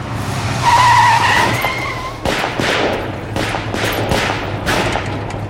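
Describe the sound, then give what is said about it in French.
A car carrying six people skids to a stop with loudly squealing tires during an ambush on 26 April 1944, followed by a rapid string of sharp gunshots over a low engine rumble, with no one speaking. “Putain, il y a combien de personnes dans la bagnole?”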